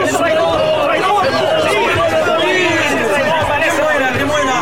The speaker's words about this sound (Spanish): ¿Escuchas a los gritos? Te acusan de muchas cosas. ¿Y tú no respondes nada ante sus acusaciones? Escucha. Dicen que alborotas al pueblo con tus discursos.